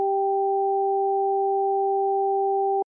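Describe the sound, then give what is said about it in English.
Pure electronic tones, high and low, alternate in a rapid, even pattern, switching about four times a second with faint clicks at each change, loud and steady for nearly three seconds; played over headphones, with the high tones heard in the right ear and the low tones in the left. “The high tones remained in my right ear, and the low tones remained in my left ear.”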